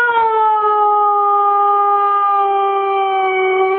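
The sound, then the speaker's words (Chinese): A Husky named Mishka lets out one long, loud howl, a steady drawn-out tone that sags slightly in pitch, with a vocal, almost word-like quality, as if saying 'I love you'. No one else speaks. “OK， 这种狗啊，除了会向讲 I love you 啊，一个会向讲 hello，”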